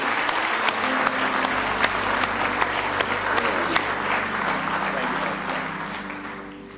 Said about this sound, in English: Somebody say praise the Lord. Somebody say praise the Lord. Give him one more good hand clap of praise if you love him.